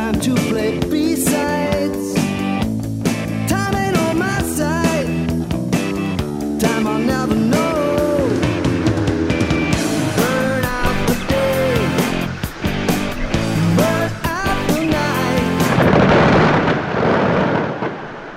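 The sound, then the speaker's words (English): Deep rumbling booms of iceberg calving, recorded on the West Antarctic Peninsula, mix with the steady crackle and popping of melting brash ice, while leopard seals trill in eerie, gliding, pitch-bending calls throughout, loud and dense. “This is the sound of iceberg calving, brash ice melting, and the trilling of leopard seals, recorded on the West Antarctic Peninsula.”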